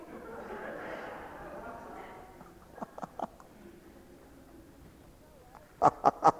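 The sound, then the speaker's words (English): A voice mimics a goose, giving three short, quieter honks midway and then a burst of four loud, rapid honks at the end, after a soft, murmured vocal sound. “Aren't you here, you dumb goose?”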